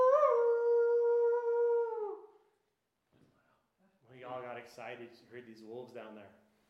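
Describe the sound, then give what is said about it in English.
A person imitates the howl of wolves heard way down at the end of a valley towards the Smith Creek trailhead, with one long, steady, loud note lasting about two seconds. After a short pause, a voice starts talking. “We're listening to the wolves.”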